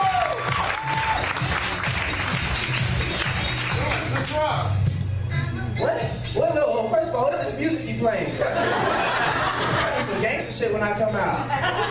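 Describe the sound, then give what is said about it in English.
Sustained audience applause, a dense wash of many hands clapping that holds steady for the whole stretch, with voices talking and a low hum running underneath. “That's why I'm clapping right now.”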